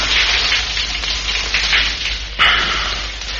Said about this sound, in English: Finally, I crawled to the bathroom on my hands and knees, turned on the shower, crawled into the shower cubicle, clothes and all.